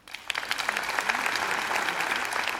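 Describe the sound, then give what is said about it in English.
An audience breaks into steady applause, clapping to vote that a news story is real, many hands clapping at once in a dense, crackling patter that starts quickly and holds at an even level throughout. “Clap your hands if you think this is real.”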